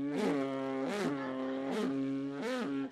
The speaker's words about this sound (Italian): Mizzica, quest'estate sono stato al mare giù in Calabria. Mizzica, ero lì sdraiato tranquillo sulla spiaggia. C'era un tipo col motoscafo che continuava a passare.